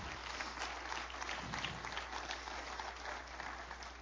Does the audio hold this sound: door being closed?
no